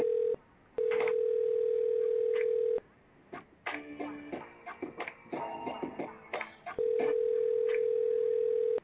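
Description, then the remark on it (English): An outgoing call rings out: a steady, low electronic ringback tone sounds in long pulses of about two seconds, with muffled rustling and faint tonal sounds filling the pause between rings. “Hopefully, they answer the phone.”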